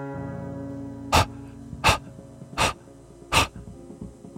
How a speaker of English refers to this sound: Or no, that was not her at all. A wet, rapid breathing. Waiting for me at the door to City Hall. What she had been fleeing from. The beagle puppy.